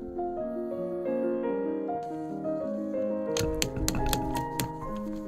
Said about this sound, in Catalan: Ja ho sé, estic ordenant els papers.